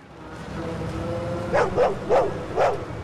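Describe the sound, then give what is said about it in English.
A large Alsatian dog leaps onto a car bonnet and barks four times in quick succession, loud, after a moment of low background rumble. “Manny lets Bernie into the car just as the Alsatian leaps on the bonnet.”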